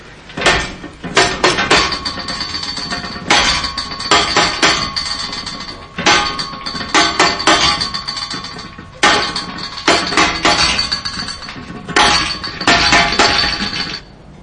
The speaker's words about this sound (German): Klopfzeichen.